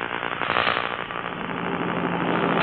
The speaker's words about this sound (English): The plane left LaGuardia Field, New York, shortly after 6 o'clock this morning Eastern Standard Time and is now well on its way roaring across the continent.